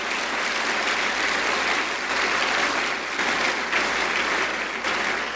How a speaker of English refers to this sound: Let's give both of them a round of applause and thank them.